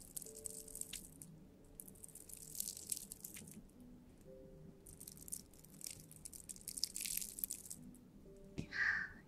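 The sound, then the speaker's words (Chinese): Irregular crunching and crackling as ice cubes are bitten or handled, in bursts over a faint steady tonal background, ending with a brighter clinking sound. “欢迎冰块”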